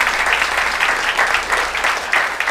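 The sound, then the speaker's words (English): Steady, dense applause from an audience for a panel of speakers at an evening panel discussion, a continuous crackle of many hands clapping at once, loud and sustained for a couple of seconds with slight swells. “Can we have a round of applause for our esteemed panel tonight?”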